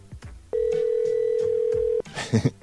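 A telephone ringing on a call about a large bird cage for sale: one long, steady mid-pitched ring tone lasting about a second and a half, with faint background murmur before it and a short burst of voice right after.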